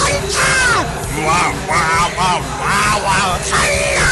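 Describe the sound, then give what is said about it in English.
Loud, strained yelling from a voice, several raspy shouts in quick succession with rising and falling pitch, over a steady background din. “Another sign is excessive random yelling.”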